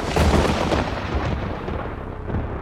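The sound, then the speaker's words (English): A deep, rolling rumble of thunder from a lightning storm fills the space, loud, with heavy low booming that slowly fades its brighter crackle over a few seconds. No voices are heard. “He was an ordinary man, until he decided to fly a kite in the middle of a lightning storm.”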